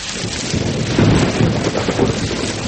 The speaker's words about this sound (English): The rain's back. But notice, it's not raining on us. It's raining behind and ahead, but not on us.